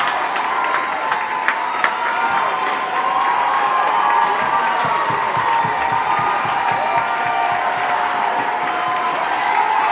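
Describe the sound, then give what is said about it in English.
A concert crowd cheers and applauds in a loud, unbroken roar for about ten seconds, dense clapping beneath scattered whoops and a few sharp whistles. “This crowd just loved it.”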